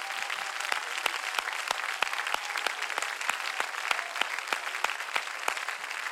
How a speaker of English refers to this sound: Oh, clap your hands. That's just an invite to somebody.